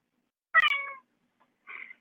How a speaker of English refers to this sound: I just heard a cat.